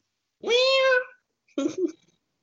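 A cat meows twice: a long, drawn-out wailing meow followed after a short pause by a shorter, rougher one, with no other sounds around them.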